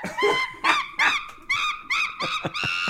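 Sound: monkey sound effect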